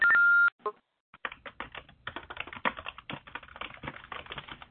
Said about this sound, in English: There's someone who's typing right now. If you could put your phone on mute, that'd be great.